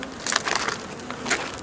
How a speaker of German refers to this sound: Und jetzt sind wir auch schon unmittelbar an der Bienenkiste. Da ist ein kleines Flugloch und da herrscht aber wirklich Hochbetrieb.